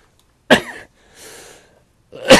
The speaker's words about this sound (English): Excuse the cough there.